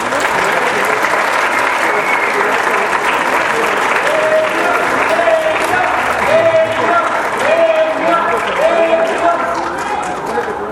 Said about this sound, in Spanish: ¡Fuerte el aplauso!